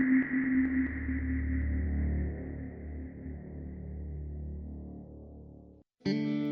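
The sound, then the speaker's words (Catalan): A sustained, effects-heavy tonal sound hums steadily and slowly fades, then cuts to a brief silence before a recording of a well-known pop song starts up abruptly and loudly. “amb una de les més conegudes d'…”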